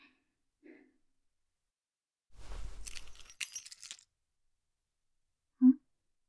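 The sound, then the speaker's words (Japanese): A metal key, a spare key to the room, clinks and rattles down onto a hard surface in a short jangle lasting over a second, with faint soft knocks before and after in an otherwise quiet room. “あ、もしかして、この部屋の合鍵？こんな大事なもの。”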